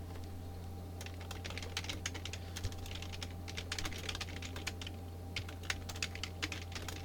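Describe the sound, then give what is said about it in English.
Rapid, uneven keyboard typing with many crisp key clicks in irregular bursts, set against a steady low electrical hum with no voices. “Listen to me typing, children.”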